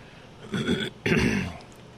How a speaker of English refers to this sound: Clearing my throat here, trying to clear it with a little hot coffee. Yes, fast food coffee.